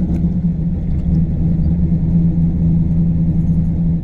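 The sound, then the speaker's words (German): A car engine rumbles steadily on a street in the city centre of Mannheim, a deep, continuous drone that holds an even loudness throughout, with no voices. “Quadratisch angeordnete Straßen, Häuserblöcke, Straßencafés mit direktem Blick auf vorbeifahrende Autos.”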